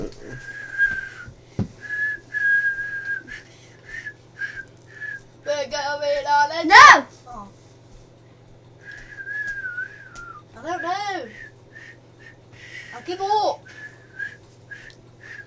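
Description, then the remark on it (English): Someone whistles a bouncy cartoon theme tune, short repeated notes in phrases, broken by a few bursts of voice and a sharp knock partway through. “Well then whistle that again. That was nothing like it.”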